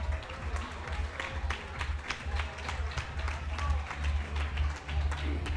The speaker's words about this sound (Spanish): Un aplauso para Radio para Panda. Eso es lo que pido.